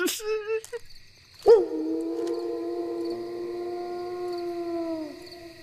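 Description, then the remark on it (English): A loud howl from a large, shaggy werewolf about 3 feet away rises sharply and then holds a long, steady wailing tone for several seconds before fading, with a few shorter yelping tones just before it. “It was a loud howl coming from about 3 feet away.”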